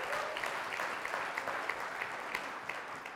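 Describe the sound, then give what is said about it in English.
A large audience claps steadily to praise the Lord, a dense wash of many hands with scattered sharper claps standing out, sustained and even throughout without any speech. “Come on, if you agree with that, give the Lord a clap and a praise.”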